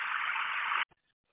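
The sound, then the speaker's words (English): A steady, droning bus engine idles as if heard over a narrow radio or phone line, then cuts off abruptly, followed by a single faint click. The bus is stopped on track 25 with its engine running. “Is the bus running? Is the engine running?”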